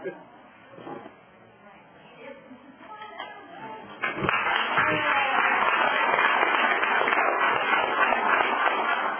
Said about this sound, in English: Should we just applaud for her right now and bow on up?